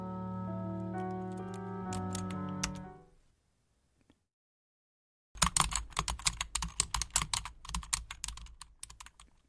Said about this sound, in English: And then I started typing on the keyboard.